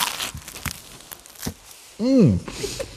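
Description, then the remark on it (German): Crisp crunching and crackling as a cheese and sausage toast with ketchup underneath is bitten into and broken apart, a few sharp brittle snaps spread over the first second and a half, followed by a short voiced hum. “Ich habe jetzt hier einen Toast mit Käse und Yachtwurst und beiße einfach mal rein und schau mal nach, wie das schmeckt.”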